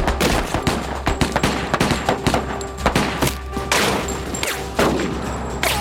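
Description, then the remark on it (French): Rapid bursts of gunfire crack out again and again over several seconds, sharp repeated shots with an echoing, chaotic quality, loud with no talking, as armed robbers fire while coming out of the back of a truck and police fire revolvers. “Je me suis retourné et j'ai vu les suspects sortir de l'arrière du camion en tirant des coups de feu.”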